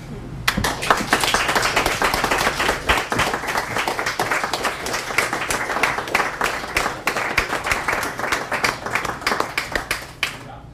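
An audience at an evening of readings applauds a reader steadily for about ten seconds, many hands clapping at once in a dense, crackling patter that stays fairly even in loudness throughout.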